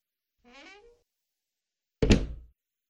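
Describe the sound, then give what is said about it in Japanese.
A door is swung shut by someone reaching behind their back: a short creaking squeal of the hinge, a brief pause, then a solid wooden thunk that fades quickly. No voices. “手首丈の白手袋をはめた手で、控えめな胸元を押さえると、アーモンドのように形のいい目をクリクリさせながら、後ろ手に扉を閉めます。”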